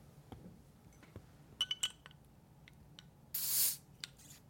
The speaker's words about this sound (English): Still had some carbonation on there. You could hear it go. Yeah, there was a little bit of a hiss, wasn't there?